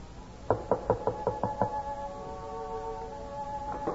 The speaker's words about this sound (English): Who knocks at this hour?